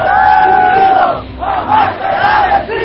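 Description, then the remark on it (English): A large crowd at an FMLN political rally, led by the 73-year-old three-term legislator and candidate Shafiq Handel, sings a 1970s Latin American revolutionary song together in unison. It is a loud sustained melody with held tonal notes, briefly dipping before the voices swell again with a chanting, rally-like energy. “At an FMLN rally, the 73-year-old three-term legislator leads the crowd in a 1970s Latin American revolutionary song.”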